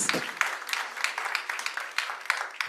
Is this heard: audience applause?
yes